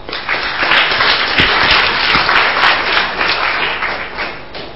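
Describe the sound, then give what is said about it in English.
An audience applauds steadily for several seconds to thank a panel after a question session, a dense wash of many hands clapping at once with a few sharper individual claps standing out before it gradually tapers off. “If there are no more questions, let's thank our panel.”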